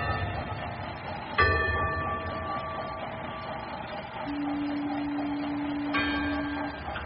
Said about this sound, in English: There's a gong, too, you hear? That's good. When you're navigating through a fog like this, it's always a great comfort to know that you know where you are.